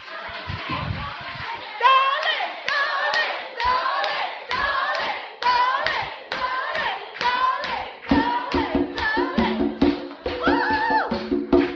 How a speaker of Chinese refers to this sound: 哦，他不愿意出来，因为他说掌声不够。